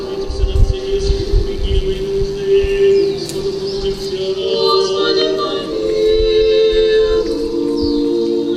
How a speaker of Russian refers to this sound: Молитва монахинь слышна за пределами святыни и сливается с пением птиц.